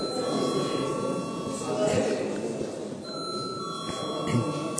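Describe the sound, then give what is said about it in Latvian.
A bell in the Latvian Saeima (parliament) chamber rings in one steady, unbroken tone for several seconds before a vote, with a low murmur of voices and shuffling underneath. “Paldies, lūdzu zvanu.”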